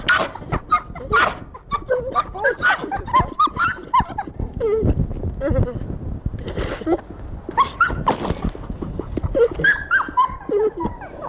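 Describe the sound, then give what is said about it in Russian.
A pit bull dog barks and whimpers in a steady series of short, loud yelps and whines, with a rooster-like crowing quality in some calls, no talking underneath. “Я взяла коротенькое интервью у одного из питомцев”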